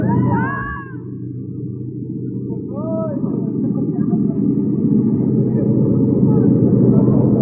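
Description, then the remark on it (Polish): A loud, steady airplane engine roar fills the cabin without pause during a flight as the pilot rocks the plane, with a couple of brief warbling, rising-and-falling tones breaking through near the start. “Kołyszę bardzo tym samolotem, ale podejrzewam dlatego, że my po raz pierwszy lecimy.”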